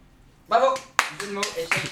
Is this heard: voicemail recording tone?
no